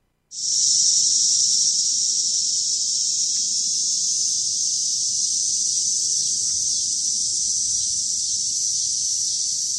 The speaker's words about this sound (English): One of the things that I think is most distinct about cicadas is the sound they make, right? We have a little bit of tape of that. Let's take a listen.